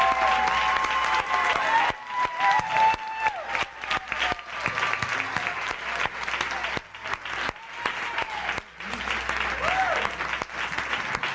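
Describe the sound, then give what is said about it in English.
A church audience claps steadily and loudly for its leaders, dense overlapping applause from many hands with a few brief dips, joined by faint cheers and scattered whoops in the background. “Saints, give your leaders a hand clap.”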